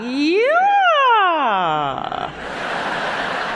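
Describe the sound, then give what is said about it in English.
Singer Renee Fleming imitates a siren as a vocal warm-up, her voice sliding smoothly up in pitch and then swooping back down in one long wail, followed by a burst of breathy, noisy sound. “Can you do a siren for us?”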